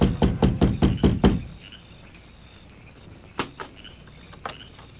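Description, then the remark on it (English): A rapid, evenly spaced series of about seven loud knocks on the wooden door of a small ranch house at dusk, by a visiting army officer, followed by near silence with a couple of faint taps. “It was dusk when he reached the small house and rapped on the door.”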